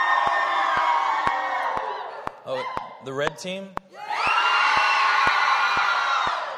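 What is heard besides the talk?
children cheering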